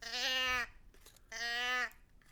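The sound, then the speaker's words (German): Olchi-Baby, a character from the Olchis story, bawls in two loud, high, wavering wails, each lasting just over half a second with a short gap between them, and no talking. “Olchi-Baby hat angefangen zu plärren.”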